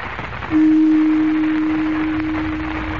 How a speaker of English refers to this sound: Now, quickly, call the council together. I must give them final instructions in the event something unforeseen happens. Strike the gong.